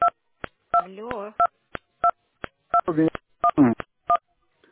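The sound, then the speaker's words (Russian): A rapid series of short, beeping telephone keypad tones pressed during a phone call, about a dozen presses in an irregular rhythm, loud, with bursts of a voice talking between some of them. “Алло, девушка, вы куда-то нажимаете. Я никуда не нажимаю. Алло, прерываетесь.”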